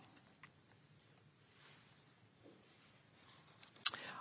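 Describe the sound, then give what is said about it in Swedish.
Soft, faint rustling of book pages being leafed through to Luke chapter 18 for a few seconds, ending in one sharper, crisp page flick near the close; no one speaks. “Vi bläddrar till Lukas 18.”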